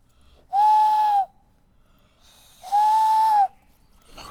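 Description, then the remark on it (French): Two breathy, steady whistled hoots, each about half a second to a second long with a pause between, as a person imitates an owl call in a cemetery against a quiet background. “T'as vu les oiseaux, ils te répondent. Je vous croirais qu'il y a un hibou.”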